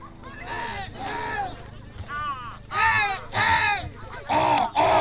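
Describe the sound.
A human voice mimics a series of bird and animal calls at the Breath of the North (Dykhanie Severa) festival: harsh, raspy caws and whinny-like wavering cries in separate bursts, growing louder toward the end, with no spoken words.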